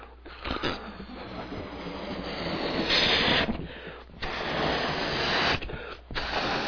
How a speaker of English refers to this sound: And don't get excited, I'm not a balloon artist. I'm not going to change this into anything other than a bigger balloon.